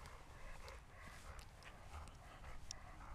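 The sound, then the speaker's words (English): A dog makes soft, tired-sounding noises, with breathy huffs and faint whines over a steady low rumble and light tapping steps. No one speaks. “I think my dog's tired, guys.”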